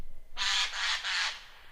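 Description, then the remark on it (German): A Eurasian jay gives three harsh, raspy screeches in quick succession, loud, with no other sounds around them. “Meines Erachtens ist es ein Eichelhäher.”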